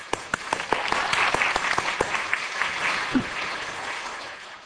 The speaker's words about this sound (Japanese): 奉仕をされた子供たちに拍手しましょう。